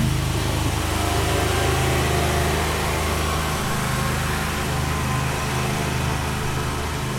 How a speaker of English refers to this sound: Just letting the lawnmower go by.